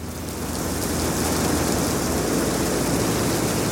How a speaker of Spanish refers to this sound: Y la llovizna se convirtió en una tormenta.